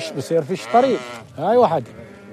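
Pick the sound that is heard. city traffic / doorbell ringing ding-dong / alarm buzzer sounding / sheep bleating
sheep bleating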